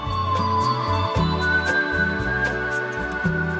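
A clear, pure whistled tune glides through sustained notes over a full instrumental backing with a steady beat and deep bass, the whistle sitting bright and up front throughout.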